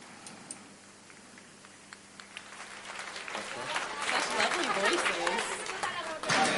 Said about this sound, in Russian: Окей, бехиот капаим. Все, аплодисменты всем.